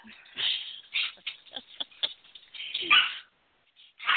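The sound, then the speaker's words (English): A small female corgi whimpers during a dog fight and lets out a string of sharp, high-pitched yips in uneven bursts, with a brief pause before one last whine at the end. “I've got a female corgi, and everything belongs to her, even if it's somebody else's.”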